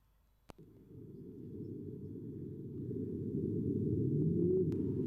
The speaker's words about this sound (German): So this is what a whale sounds like. Das ist, was wie ein Wal klingt. Zehnfach beschleunigt. So klingt ein Wal.